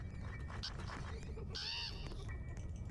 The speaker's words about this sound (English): Oh, something hit me. Huh? Oh, it's the crow.